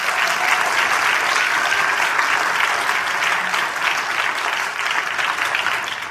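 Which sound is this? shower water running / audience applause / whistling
audience applause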